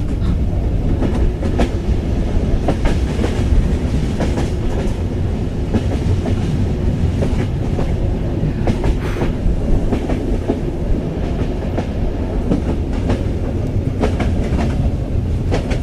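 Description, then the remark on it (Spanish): A train rolls steadily along the rails, a dense low rumble with repeated clickety-clack beats from the wheels over track joints, loud and continuous with no voices. “El mar y el tren.”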